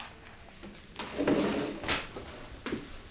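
A door opening with a few soft wooden clunks and a scraping rattle of the handle and latch, a brief cluster of muffled knocks and a faint creak, with no talking.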